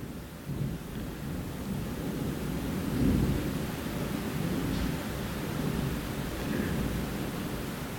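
A long, deep rumble of thunder rolls on steadily for several seconds, swelling slightly near the middle, with a faint hiss like rain underneath and no voices.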